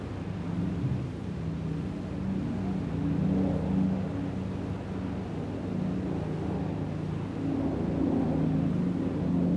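A steady, droning engine rumble fills the whole stretch as a couple of airplanes fly over a square, with low humming tones that swell and ease slightly but never fade away.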